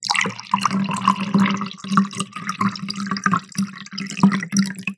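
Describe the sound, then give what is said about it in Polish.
Cold tap water runs into a glass, a steady splashing pour with a bright, bubbling ring that continues throughout, fairly loud. “I nalewam wodę teraz zimną.”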